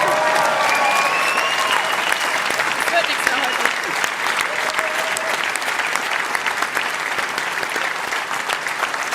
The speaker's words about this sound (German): Ja, danke erstmal für die Worte, für den Applaus, glaube ich, oder nehme ich sehr, sehr gerne stellvertretend dann für unser Trainerteam an.